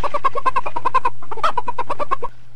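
A chicken clucks in a quick, steady run of short, loud, mid-pitched notes, pauses briefly, then clucks again in a second rapid burst over a low, constant hum.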